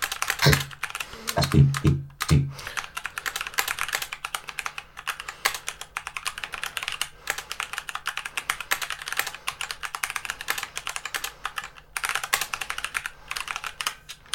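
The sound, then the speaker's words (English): Rapid, continuous typing of a few lines in TextEdit on a Mac using a computer keyboard, a dense stream of crisp key clicks at a steady pace with a few heavier thumps near the start, with no voices. “Once again, just so you can hear that the accuracy of this keyboard is pretty stellar. It doesn't miss a key, and anything like that.”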